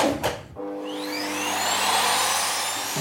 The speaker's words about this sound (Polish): Wziąłem już wacik, przykładam do końcówki odkurzacza. No i tak samo, 5 minut wsysania powietrza.